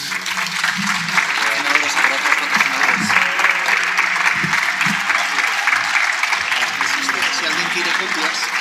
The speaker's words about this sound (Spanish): Y, por tanto, reitero este agradecimiento a ambos, de manera que podemos despedirles con un aplauso.